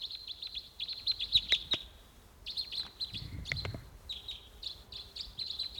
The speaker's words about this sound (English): Yeah, no sign of it. Just the decoys calling there. Stop. Wild bird coming in. Two. Decoys there. Wild. Wild.